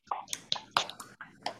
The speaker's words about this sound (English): Give each other a clap. Yay. Good job.